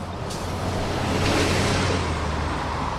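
A steady wash of traffic noise at the traffic circle in the center of downtown Winooski, with a low engine rumble underneath, swelling slightly midway as vehicles pass; no voices, just continuous road sound.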